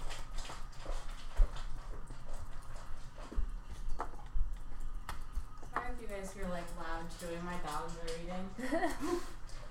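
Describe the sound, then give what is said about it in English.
Dogs chew food with wet, irregular clicks and smacks throughout, and a person starts talking over the chewing partway through. “You guys hear, like, loud chewing. My dogs are eating.”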